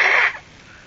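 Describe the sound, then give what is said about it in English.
A child, helped by an adult, blows their nose as hard as they can, a short, forceful, breathy burst lasting a fraction of a second that quickly fades into quiet. “Blow as hard as you can. Blow again.”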